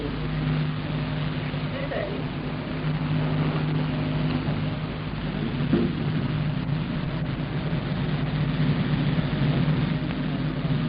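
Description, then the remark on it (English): A Europa 1 rocket launch streams away to the north through thin cirrus cloud cover. Its steady, rumbling roar fills the whole stretch, a dense low growl with a droning hum underneath, holding an even loudness without breaks. “I've completely lost Europa 1 in my binoculars now through the thin cirrus cloud cover, but we can hear the roar of it as it streams away to the north.”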